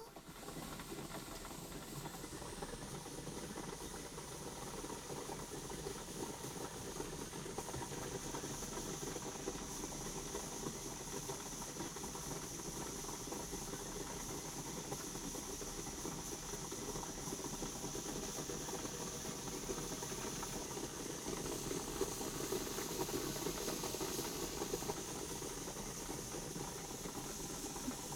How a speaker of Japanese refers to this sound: もうそろそろかな。それじゃあスチームを出すから顔をもう少し近づけて。うん、この辺りで。そのままの位置で動かずに浴びてね。いくよ。